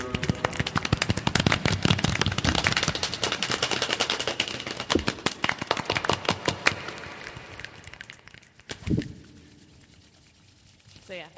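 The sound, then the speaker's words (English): A group imitates the start of a rainstorm, passing the sound around a circle, with a dense, rapid patter of sharp taps and clicks that stays loud and busy, then thins out and fades to near quiet. “It's supposed to sound like the beginning of a rainstorm”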